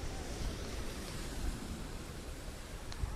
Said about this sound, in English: Watching people surfing the big waves. It's very nice here. Okay, so I wish we could hear more of the crashing in the water though.